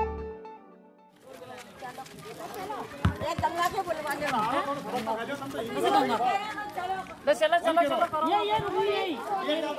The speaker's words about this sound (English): A small, bright crowd has gathered in front of the temple at Bodhpura in the Indian state of Rajasthan. Some 80 women talk excitedly.